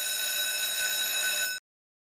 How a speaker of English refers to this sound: why don't you go ahead and sound that bell?